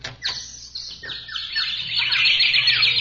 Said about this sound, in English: Hey, must be a million birds here.